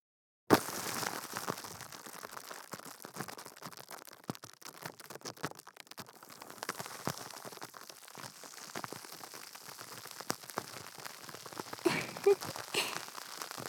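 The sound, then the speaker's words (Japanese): Carbonated water fizzes in the ear, a steady, dense crackle of tiny bubbles popping, with sharper pops scattered throughout. It starts abruptly and keeps going at an even, fairly quiet level, with no voices. “お耳の中、炭酸水でいっぱいです。”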